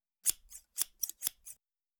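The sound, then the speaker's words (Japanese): Scissors snip through hair close to the ear, six crisp, bright shearing clicks in a quick, slightly uneven rhythm, with no talking. “ハサミが髪を切る音ってどうしてこんなに気持ちがいいんでしょうね。”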